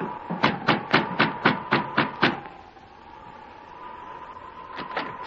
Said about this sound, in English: Joe Findlay went directly to the cabin where Sergeant Preston was staying and knocked on the door.